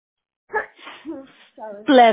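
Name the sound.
sneeze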